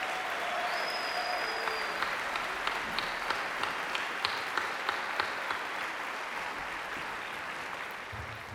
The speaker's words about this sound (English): First and foremost, I'd like to thank the district's music teachers and staff who work with our students every day with such incredible dedication, love, and commitment. Let's give them a huge round of applause.